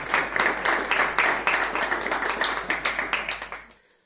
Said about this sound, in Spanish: Así que quiero pedir un fuerte aplauso para Leonid Slutsky, portero mitiquísimo.